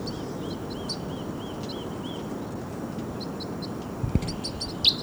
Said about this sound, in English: Birds may be coming down. Oh, there they go. Well, here they come.